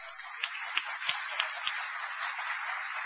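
Steady crowd applause for the women in technology, a soft continuous patter of many hands with a few sharper individual claps standing out early on, fairly quiet and without any voices.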